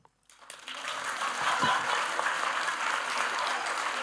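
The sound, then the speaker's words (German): A burst of applause starts abruptly and holds steady as dense, even clapping from many hands, a loud hiss-like wash of claps that continues without pause to the end. “Aber warum höre ich dann keinen Applaus?”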